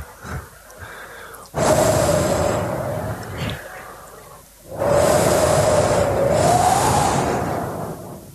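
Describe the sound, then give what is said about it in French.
A voice imitates a refrigerator door being opened: two long, loud, breathy whooshing bursts, each carrying a faint wavering hum, separated by a brief quieter gap. “Vous connaissez ce bruit? C'est quand on ouvre le frigidaire.”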